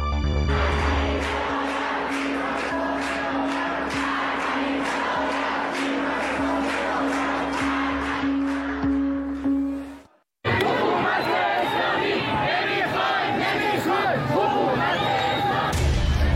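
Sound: protest crowd chanting slogans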